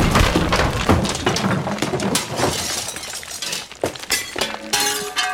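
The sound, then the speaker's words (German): Idols are smashed to pieces with an axe in a rapid, continuous barrage of loud crashes and shattering, with clattering debris and sharp cracks, and a few ringing clinks near the end. “Ein Tag hat Avram genommen einen Hack und zerbrochen alle Getschkes für seine Tate.”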